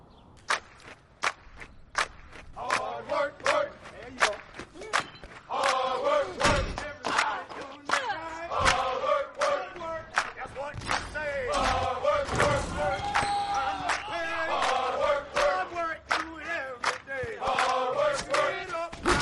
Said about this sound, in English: Everybody's got their gear on. People are chanting and cheering on the train before you even get to the station. There's a sense of camaraderie because Philly loves their sports teams.